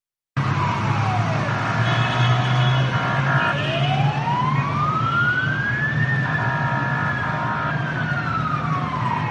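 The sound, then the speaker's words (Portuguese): Fire engine and ambulance sirens wail loudly and continuously as the vehicles converge on the scene of burning train carriages during rush hour. Their pitch sweeps slowly up and down over a steady rumble of heavy traffic and engines, with no one speaking. “Viaturas de bombeiros e ambulâncias convergiram para o local durante a hora de ponta, com os bombeiros a lançar água sobre as carruagens que estavam a arder.”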